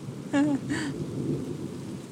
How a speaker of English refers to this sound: Lightning. Thunder's rumbling in the distance. Here we go. This is a big piece, I think. It's vibrating the house. Goodness me.